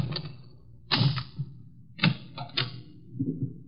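Skeleton keys scrape and rattle in the lock of a locked store door, with a few sharp clicks and clunks spaced irregularly as the lock is worked open, without any talking.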